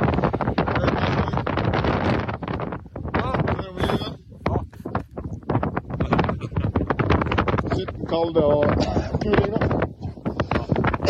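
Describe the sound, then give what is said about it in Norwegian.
Strong, gusting, cold wind in Antarctica batters the microphone while fabric flaps in rapid, irregular bursts, a loud, rough rumble that rises and dips throughout, with muffled voices and coughing faintly underneath. “Alltså du kan höra på den blaffringen hur kallt det.”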